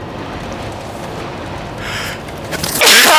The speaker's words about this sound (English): I want to sneeze again.